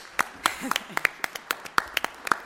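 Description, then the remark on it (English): Sparse, scattered applause from a small audience at a symposium: a handful of sharp, irregular claps over a couple of seconds, with a brief murmur of a voice underneath. “Just imagine what the applause will build, believe you me, and not for me.”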